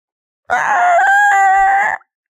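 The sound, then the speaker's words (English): A voice imitates the screeching belt of a failing car, with a sustained, loud, high-pitched wail lasting about a second and a half, wavering in pitch before cutting off abruptly, with no other sounds around it. “Belt screaming.”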